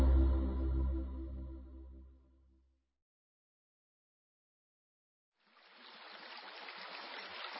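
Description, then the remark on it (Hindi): A deep resonant tone fades away, then after a brief silence a steady stream of flowing water rushes in and continues, even, with no voices. “झरझर बहते झरने व कल कल करती नदियां कितनी सुखदायी लगती हैं।”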